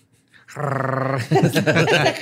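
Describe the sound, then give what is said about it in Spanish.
A person growls like an animal, a low rumbling snarl held for under a second, loud, then breaks into a quick burst of voiced talk. “O sea, le empiezas a gruñir para que piense que te estés loco y diga, no, con este mejor me meto.”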